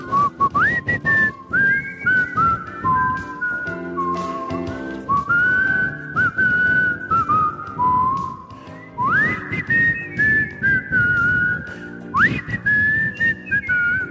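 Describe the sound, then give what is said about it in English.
A person whistles a bright, wavering melody along to a full band track with drums, the whistled tune gliding between sustained notes and following the song closely, loud throughout. “I heard you like to whistle. Why don't you whistle along with this song?”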